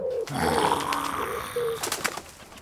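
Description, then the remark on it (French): Pigeons coo in low, burbling tones, followed near the end by a brief flurry of soft flapping wings as they flutter off. “Ah, mais je préfère encore éloigner les pigeons que les mauvais esprits, là.”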